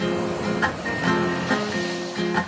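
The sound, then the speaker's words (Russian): Sea waves wash in steadily under the southern sun as someone wades in waist-deep, a continuous hiss of water with soft swells rising every half second or so. A faint sustained tone hums underneath. “вот оно, южное солнце на море. Заходим по пояс, а дальше плывем.”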